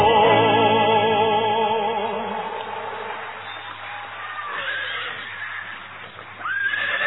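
A horse lets out a loud whinny with a shaky, quavering pitch, then the neigh fades into softer breathy snorts and rustling.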